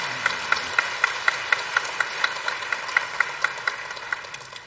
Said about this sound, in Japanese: しかしこうして約束通り、来てくださったことをですね、本当に心から感謝しています。ちょっと拍手で感謝します。